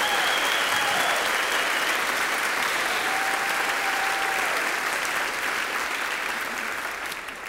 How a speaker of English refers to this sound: The audience applauded wildly.